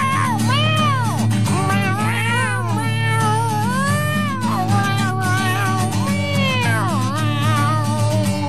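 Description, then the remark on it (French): A cat meows over and over, loud, a run of rising-and-falling yowls coming every second or so above a steady, droning low background. “D'alcool et de drogue, il était en manque, et il miaula tout le monde à terre.”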